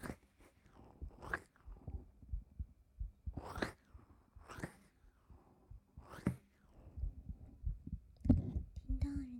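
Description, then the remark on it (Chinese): A soft, muffled heartbeat thumps in a steady low rhythm, heard with a head resting against a person's chest, with occasional brief rustling swishes over it. Quiet, no talking. “说实话，刚看到先生的时候，人家的心跳就不快了呢。真的，不信给你听听。”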